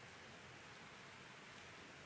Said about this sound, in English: Are we getting rained on the side here? We're good? Okay. Just making sure.